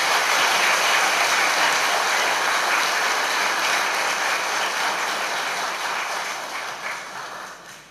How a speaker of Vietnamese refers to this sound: Xin quý vị hãy dâng cho một tràng pháo tay thật lớn.